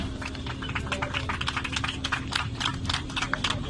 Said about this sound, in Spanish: Aplausos de los rescatados por las evacuaciones de 2 mujeres con necesidades de atención médica urgente y también sus familiares evacuadas en una embarcación rumbo a Malta. Ocurría en torno a la 1:00 p.m.